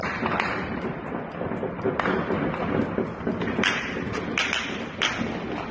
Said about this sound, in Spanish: Son balas, múltiples disparos. Es el momento del intento del asesinato del jefe de la policía local de México DF, que se enfrentó a los cárteles de la droga.